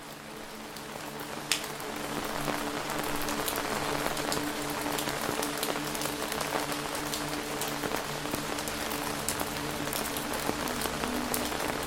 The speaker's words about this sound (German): In der Ferne dringt das sanfte Plätschern eines Baches an dein Ohr. Das stetige Rauschen des Wassers mischt sich harmonisch mit dem Prasseln des Regens und erzeugt eine natürliche, beruhigende Klangkulisse.